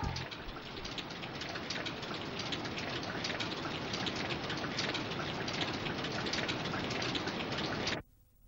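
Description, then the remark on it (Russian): Steady, heavy rain pours in a dense, unbroken hiss for about eight seconds, then stops abruptly, leaving near silence. “Дождь идет!”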